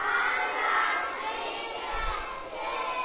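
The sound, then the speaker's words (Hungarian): A group of children shout the Hungarian greeting "Áldás, békesség!" together, a loud, sustained burst of many voices at once that fills the whole moment before easing slightly and rising again. “Na most az egyszer lehet kiabálni.”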